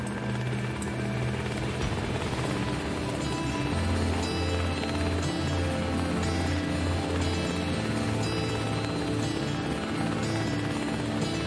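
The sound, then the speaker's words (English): A helicopter's rotor drones loudly and steadily throughout, a dense, continuous mechanical roar with a low rhythmic throb and broad engine whine, unbroken. “We have folks specially trained here in Kodiak that are trained in handling medical emergencies and transporting them from the helicopters to the emergency services.”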